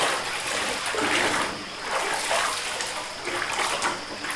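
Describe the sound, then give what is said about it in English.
Wet, sloshing scrubbing sounds with rhythmic swells of splashing water, steady, as clothes are soaked and scrubbed by hand in river water. No voices are heard. “Everyone at home, join us as we wash our clothes by the river.”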